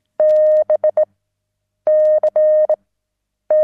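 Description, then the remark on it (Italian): Morse code beeps in a steady, mid-pitched tone, sounding in clear bursts of long dashes and short dots with brief silences between groups. No voices are present. “Suoni, immagini, segnali, punto, linea, punto, linea.”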